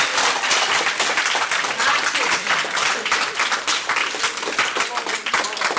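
A group of people applauds, a dense, steady patter of many hands clapping at once that stays loud and even for several seconds with no pause.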